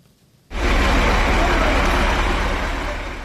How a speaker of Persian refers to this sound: ماشین های باربری گران وزن از محله گلبوته شهر دوشنبه شب و روز می گذرند.